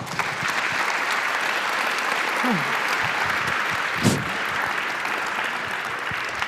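Sustained audience applause, a dense, steady wash of clapping hands at even loudness throughout, with a brief faint voice and a sharp louder clap near the middle.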